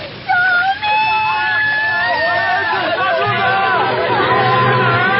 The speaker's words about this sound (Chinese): 原本的街道到处都漂流着鸡鸭碗筷，远处还不时传来尖叫的声音。